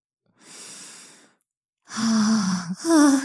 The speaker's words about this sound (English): scientific sniffing commencing.